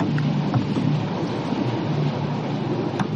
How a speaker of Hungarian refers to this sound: Az a baj, hogy nem hallok más, csak a felszíni hangokat és apró ropogásokat, ahogyan a hajótest mozog.